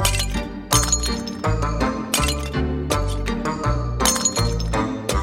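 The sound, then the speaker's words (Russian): Clay jugs smashed by a boy one after another into small shards, with loud crashes and tinkling fragments repeating at an irregular pace over a low, steady droning background. “Тогда мальчик стал брать кувшины один за другим и разбивать их на мелкие осколки.”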